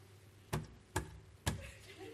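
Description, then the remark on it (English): Three soft, evenly spaced knocks on a door, each a brief dull thud about half a second apart, fairly quiet, with a faint background hum between them. “Okay, like the dog pawing the door.”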